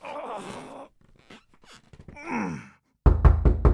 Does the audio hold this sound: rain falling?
no